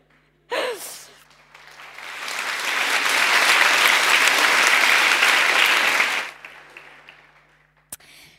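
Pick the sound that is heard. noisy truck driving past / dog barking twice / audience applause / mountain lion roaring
audience applause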